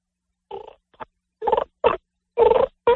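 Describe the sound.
A person voices a low, throaty growl from the diaphragm in short bursts, about five guttural pulses with brief gaps between them, imitating a turkey's soft rumbling call, said to sound like a chicken scratching on the ground.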